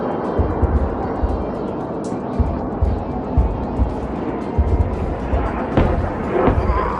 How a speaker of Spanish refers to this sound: sonaron poco antes de las 9 de la noche las alarmas en la zona de Tel Aviv. Instantes después, también las explosiones en el aire de los cohetes interceptados.